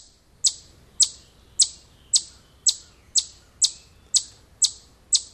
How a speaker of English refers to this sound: Let's begin. Eastern chipmunk. There we go.